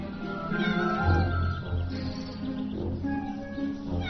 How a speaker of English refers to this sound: cat, I won't hurt you.